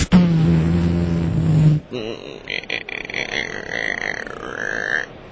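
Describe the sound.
A person imitates a deer with their voice as a hunting call, doing a grunt, snort, sniff and wheeze: a long, low guttural grunt, then a few sharp breathy snorts and a drawn-out hissing wheeze, all fairly loud.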